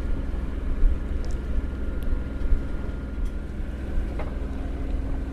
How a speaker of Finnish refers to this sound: Nyt on niin tyyntä, että ei purjeilla kyllä tee yhtään mitään. Täytyy käyttää tätä rautagenuaa. Moottorin puksutusta kuunnella.